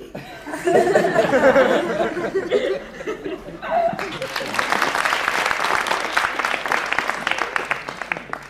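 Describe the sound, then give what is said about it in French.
An audience bursts into laughter and cheering, then breaks into sustained loud applause, a dense stretch of rapid clapping from many hands that carries on steadily to the end. “You mustn't keep applauding.”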